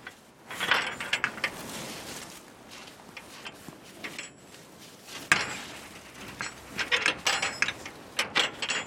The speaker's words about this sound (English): That's big-ass gate ASMR.